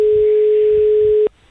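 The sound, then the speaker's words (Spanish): A steady, loud telephone-line tone holds for over a second over faint line noise, then cuts off abruptly as the answering machine picks up, leaving near silence. “Le atiende el contestador.”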